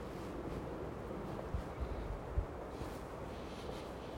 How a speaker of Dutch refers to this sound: En de wind ruist.